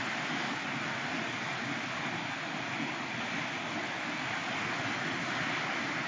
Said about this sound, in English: This is recording. We're recording the rain and...